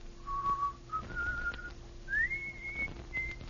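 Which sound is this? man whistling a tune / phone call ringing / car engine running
man whistling a tune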